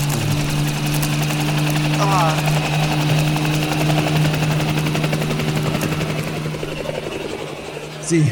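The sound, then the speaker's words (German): A helicopter takes off with a loud, steady drone and deep rotor hum, easing slightly toward the end as it flies away, while a voice briefly exclaims over it. “Sie haben den Hubschrauber erreicht!”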